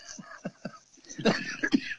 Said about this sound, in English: Yeah, I had to cough there. I don't know what the deal is.